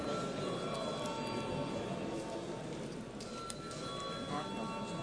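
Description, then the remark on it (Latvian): The Saeima (Latvian parliament) chamber bell, called for before a vote, rings continuously for the whole stretch: a loud, steady, metallic electric ringing with a buzzing edge and no pauses, over a faint murmur of people. “Lūdzu zvanu.”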